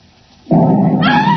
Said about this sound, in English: Great heavens, that was an explosion. Upstairs! Doctor, it was in that room. Quick! Oh, Dad, be careful. The safe. They've blown in the side of the house.